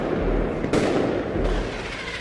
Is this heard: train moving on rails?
no